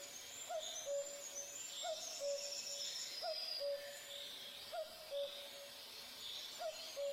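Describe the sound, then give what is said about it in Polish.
A male common cuckoo repeats its low, loud two-syllable call about five times at a steady pace, each higher note falling to a lower one, over fainter chatter from other birds. “Samce odzywają się wtedy charakterystycznym i wszystkim dobrze znanym dwusylabowym kukaniem.”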